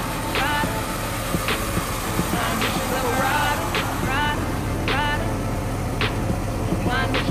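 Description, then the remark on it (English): A vehicle engine runs with a steady low rumble throughout, as if the car is rolling along, while brief voice-like sounds pop up repeatedly over it. “Hey, nigga, you quit jumping off the car while it's rolling, nigga.”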